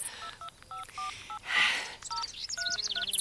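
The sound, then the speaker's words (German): A mobile phone keypad being dialed to make a call: a quick string of short two-tone beeps at an uneven pace, clear, with a brief burst of noise partway through. “Hast du dein Handy einstecken? Ich ruf sie wirklich mal an.”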